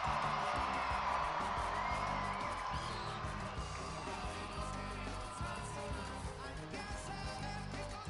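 A large crowd cheers and screams continuously, a dense wall of overlapping voices, whoops and shrieks that stays loud and steady throughout without letting up.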